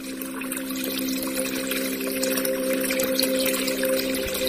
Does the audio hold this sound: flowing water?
yes